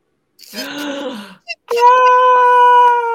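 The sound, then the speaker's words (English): A peacock by the Fountain of Youth calls loudly: a wavering, nasal wail, a brief yelp, then a long, steady, piercing cry that holds its pitch for over a second. No one speaks. “Yeah, and I heard them, and I'm like, oh, the peacocks!”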